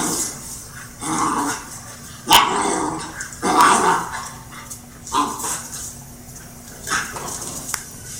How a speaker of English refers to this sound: That's normal puppy play there.